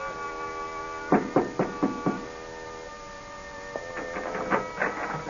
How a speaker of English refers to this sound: Tall and pale, Harry Wilcox, in a cheap brown suit, lugs a pasteboard suitcase up to the third floor of an apartment house 6 blocks from the ocean. He pauses, sets the suitcase down, and knocks on a door.